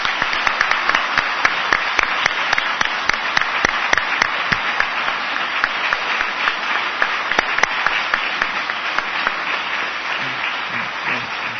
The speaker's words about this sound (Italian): Nosotros aplaudimos a ellos como un gesto para acompañar a la alegría.